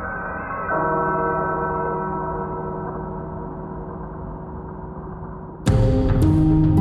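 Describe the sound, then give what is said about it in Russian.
A large church bell tolls, its deep humming tone lingering and slowly fading for several seconds before a second loud, clanging strike rings out. No voices are heard. “И, конечно, говорят, что иногда в тихую безветренную погоду у Святого озера можно услышать доносящиеся из воды звуки. То ли звон колоколов, то ли плач младенцев.”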